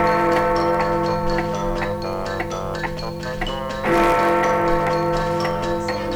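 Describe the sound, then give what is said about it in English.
Chimes of an enormous white and gold clock strike the hour in a steady rhythm of bright, bell-like strikes, layered over sustained musical tones, fairly loud and continuous with no voices, heard from a boat sailing past the clock face. “As he sailed past the clock face, he heard the chimes telling the hour.”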